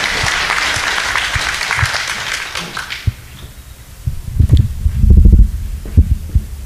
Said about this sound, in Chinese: 这个今天在我们中间来传讲啊他生命的见证，我们大家来鼓掌欢迎他，我们把时间交给他。